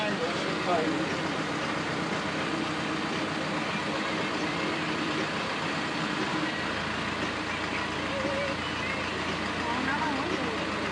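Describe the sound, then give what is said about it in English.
The heavy engine of the Balboa car ferry idles steadily in a continuous low rumble, fairly loud, with a broad wash of mechanical noise and faint murmuring voices in the background. “Sounds of the Balboa Ferry.”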